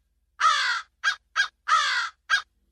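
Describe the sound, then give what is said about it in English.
Crows caw loudly, five harsh calls in quick succession: a long drawn caw, two short clipped ones, another long caw, then a final short one, in a film song scene before the lyrics begin, as Prabhudeva climbs up a pole. No one speaks. “this guy first goes up a pole and there are crows that are yelling.”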